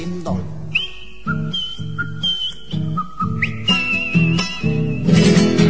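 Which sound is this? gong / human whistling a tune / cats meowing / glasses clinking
human whistling a tune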